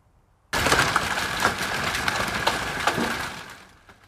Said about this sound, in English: This is one of the videos sent to us by viewers of the hail pounding the O'Fallon area yesterday afternoon.